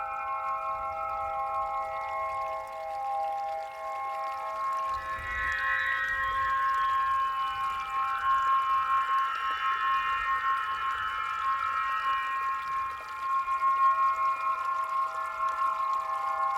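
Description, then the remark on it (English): Underwater calls of bearded seal, beluga whale, gray whale and bowhead whale: long, sustained tonal moans and whistles layered over one another, with a soft low rumble of water beneath, continuing steadily throughout with no talking. “Erignathus barbatus. Delphinopterus lucas. Escrictius gibbosus. Baleana mysticetus.”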